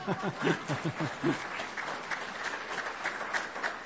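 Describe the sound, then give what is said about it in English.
An audience claps steadily for a few seconds, a dense patter of many hands, with a few voices and a brief chuckle rising early on before the applause settles into an even wash; an afternoon gathering applauding a returning guest. “You can clap, it's okay.”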